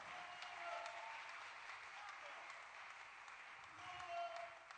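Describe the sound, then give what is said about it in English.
An audience breaks into sustained applause, a dense steady wash of many hands clapping at once, fairly quiet overall with a slight swell near the end and faint voices mixed in. “Oh, I want to clap for that.”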